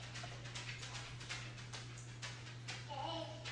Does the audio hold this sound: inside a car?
no